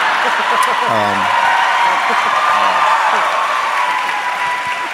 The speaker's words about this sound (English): Well done. Cheap applause.